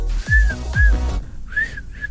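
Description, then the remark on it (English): Someone tries to whistle, producing a few short, wavering whistled notes with heavy breathy puffs between them, ending in a slightly longer, uneven tone. “how do you know if somebody in your life is a good whistler?”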